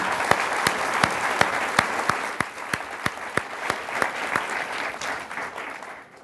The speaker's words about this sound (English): That applause was surely for Michael, but maybe a little applause for Fairfax and the extraordinary job that she's done.